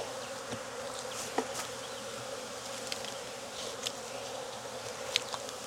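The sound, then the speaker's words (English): A dense, continuous hum of a swarm of honey bees buzzing everywhere at once, steady, with occasional individual bees zipping past and no voices. “There are bees everywhere now.”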